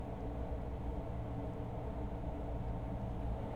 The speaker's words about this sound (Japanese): 電車の音も心地いい。